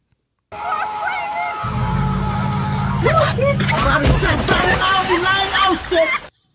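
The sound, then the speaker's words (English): Steady rushing, sloshing water on a water park slide fills the scene with a low rumbling churn beneath it, while several voices chatter and call out over the noise. “It said, took my mom to a water park today and this happened.”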